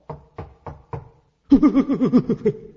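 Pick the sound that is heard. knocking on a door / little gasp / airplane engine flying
knocking on a door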